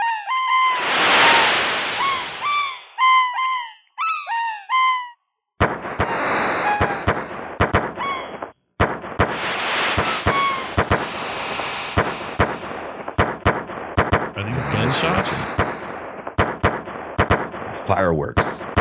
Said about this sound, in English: Fireworks. That was misdirection.